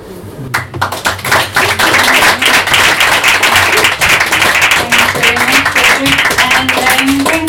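An audience at an open mic applauds the readers and the guest host steadily, many hands clapping in a loud, dense wash that holds level for several seconds, with a few faint voices and whoops mixed underneath.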